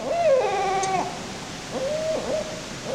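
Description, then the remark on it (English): A barred owl hoots clearly with no one talking: a long, wavering hoot followed by two shorter ones, heard over a faint, steady background hiss. “Yeah, that's the barred owl”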